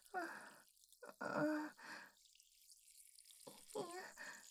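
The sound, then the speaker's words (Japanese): A woman urinates on a staircase: liquid drips and splashes steadily down the stairs in the background, a soft continuous wet patter, while she lets out breathy sighs and moaning vocal sounds over it. “階段が滝みたいになっちゃってる。”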